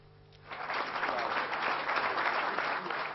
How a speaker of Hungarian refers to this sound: A Ferencváros első elnökének unokája dr. Springer Miklós kapta a legnagyobb tapsot.